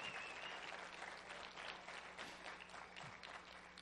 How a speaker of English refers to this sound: And I want you just to give her a big hand clap this morning and thank you.